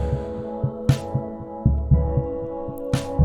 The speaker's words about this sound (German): Und ein Keyboard, das die drei Akkorde hier spielt, auch mit einer Art Puls, aber langsamer als der Drumbeat und in eine Verzerrung geschickt.